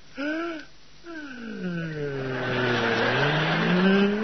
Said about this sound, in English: Now, hang on, everybody. I'm going to turn off the engine. There.